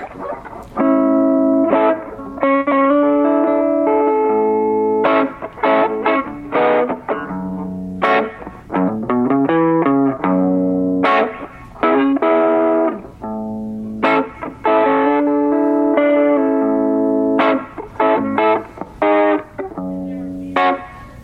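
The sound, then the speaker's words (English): An electric guitar played through an overdrive pedal with the gain turned all the way down, the level just past noon and the tone at noon, giving a clean, lightly crunchy tone; strummed chords and short riffs ring with rich harmonics at a steady, fairly loud level, no talking. “You can hear how you'll get that clean sound with a crunch.”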